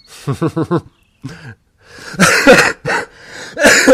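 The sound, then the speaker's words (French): A loud bout of coughing: a quick run of short voiced hacks, a pause, then several harsher, raspy coughs in separate bursts, with no speech. “Voilà, ça c'est parce que j'ai été trop méchant, donc je tousse.”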